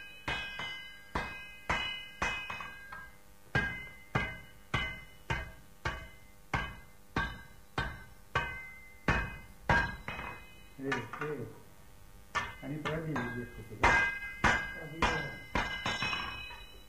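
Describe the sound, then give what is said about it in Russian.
A blacksmith's hammer rings against an anvil in a forge in a steady rhythm, dozens of sharp metallic strikes with bright ringing overtones, pausing briefly while a voice murmurs before the blows resume. “А у нас перо, вот, молоток.”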